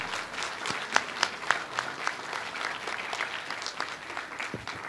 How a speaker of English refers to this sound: So let's give them all one more round of applause while they're all sitting next to you.